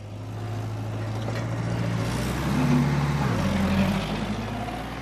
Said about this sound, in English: It's nearly 8 p.m., and Jeff Anderson is slowly backing his big rig into an almond orchard. His cargo? Literally millions of bees.